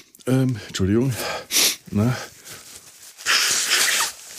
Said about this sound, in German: Jetzt geht das wieder los. Ich möchte mal einen Podcast machen, ohne hier nicht das Schnäuzen und Husten anzufangen.